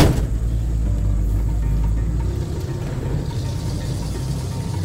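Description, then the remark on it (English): An antique truck's engine runs steadily as it crawls down Highway 68, a deep, continuous low rumble that shifts slightly in pitch partway through, with no voices. “As we crawl down Highway 68 in the antique truck, looking out to the left or the right, everything kind of runs together.”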